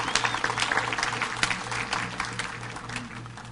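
A standing crowd applauds a group of boys with dense, steady hand clapping that holds at an even level for a few seconds, a low hum beneath it and scattered voices mixed in.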